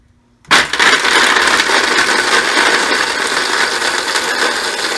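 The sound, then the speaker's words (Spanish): A blender switches on abruptly after a brief silence and runs steadily on speed setting 2, blending a paste, a loud, continuous whirring roar with no one talking. “A ver, cocinerito, me puedes colocar encendiendo la licuadora y el número 2.”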